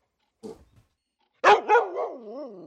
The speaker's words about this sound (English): Ah, dog.